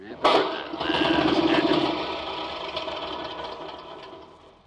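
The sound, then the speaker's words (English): A small lawnmower engine, just fitted with a magneto for quick starting, cranks into life with a sudden burst, then chugs and rattles loudly for a few seconds before sputtering and fading away. “Don't tell me. Tell the lawnmower.”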